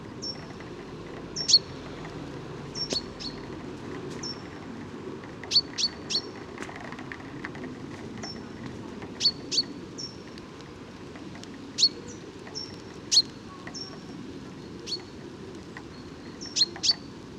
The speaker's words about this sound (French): Là c'est le ping ping, c'est un pinson des arbres. Et derrière un grimpeau du jardin.